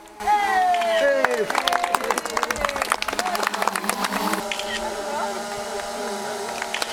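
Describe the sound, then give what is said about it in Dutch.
A drone flies in carrying the first keys for new animal ambulances. Its whirring, buzzing whine drops in pitch as it arrives, then scattered clapping and murmuring crowd voices fill the rest, with the motor hum continuing underneath. “Met een drone komen de eerste sleutels voor de nieuwe dierenambulances aangevlogen.”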